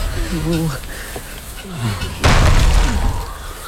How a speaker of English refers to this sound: Now, if you don't mind, I'd like to shut the gate.